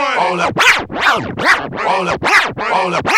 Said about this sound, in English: Hey, man, put the needle on the record, man.